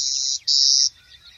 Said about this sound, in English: series of short buzzing sounds emanating from a patch of western snowberry or perhaps a thicket of some other shrubs. You may associate this buzzing with some type of an insect, but it isn't. It's the song of a clay-colored sparrow.